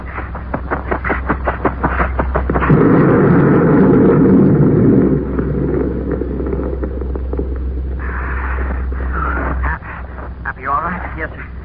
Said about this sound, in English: That explosion kicked up a lot of dust.